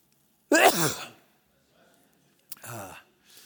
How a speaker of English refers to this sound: I'm going to sneeze.